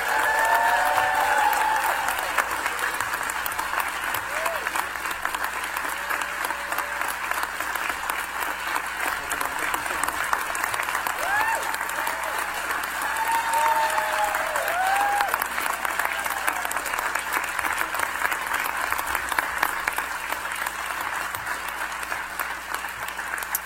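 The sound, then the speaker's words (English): A large audience applauds in a steady, dense round of clapping that holds at full strength throughout, congratulating Chancellor Ken Iwama as he is entrusted with the office of Chancellor of IU Northwest, with a few faint cheers and voices rising through the noise. “Please join me in enthusiastically congratulating Chancellor Iwama with a round of applause.”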